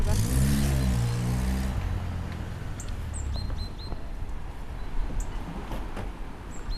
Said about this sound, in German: Du kannst da vor der Garage parken. Nur, dass zwei Autos nebeneinander passen.